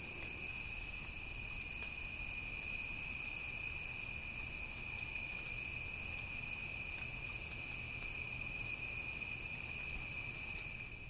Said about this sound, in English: As you can tell, I'm outside. It's night. The crickets are singing. I'm using the recorder on MS or mid-side mic. Let's pause a bit to listen to the crickets, and then we'll continue this podcast.